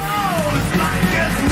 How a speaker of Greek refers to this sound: Ακολούθησε δυναμική πορεία φωνάζοντας συνθήματα, η οποία κατέληξε στο Μέγαρο Μαξίμου.